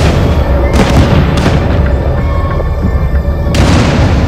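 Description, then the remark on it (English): Flash grenades thrown by rangers at night toward a tusked elephant go off in three sharp, loud bangs, two close together early and one later, over a constant heavy low rumble. “The rangers throw flash grenades.”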